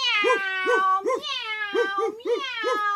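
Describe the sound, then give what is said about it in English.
A person's voice imitates a cat, meowing about seven times in a quick, steady rhythm, each meow clear and sing-song, one after another with brief pauses. “Cats were making cat sounds.”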